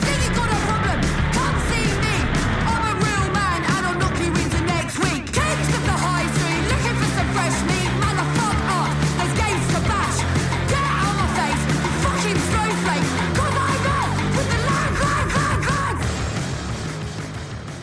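A loud, dense punk rock song plays with distorted guitars, pounding drums and shouted vocals, staying at full intensity before starting to fade near the end.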